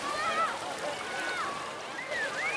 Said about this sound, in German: Was klingt wie das Plätschern der Wellen an einem karibischen Strand, ist die Abflussanlage am Beckenrand des Columbia-Bads in Berlin-Neukölln.